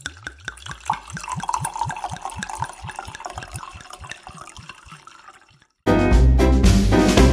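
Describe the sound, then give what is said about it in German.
Wine glugs from a bottle into a glass in a steady run of rhythmic gurgles for about five seconds, then a brief pause before loud music abruptly takes over. “Du, Stichwort Wein und Herbst und so. Wollen wir uns ein Glas gönnen?”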